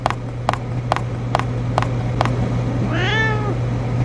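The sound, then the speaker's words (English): A single drawn-out cat meow rises and falls near the end, following a run of six evenly spaced clicks, all over a steady low electrical hum. “Now the cat has found me, and if I don't move fast enough, I'll die.”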